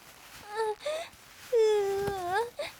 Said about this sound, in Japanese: 泣いてる。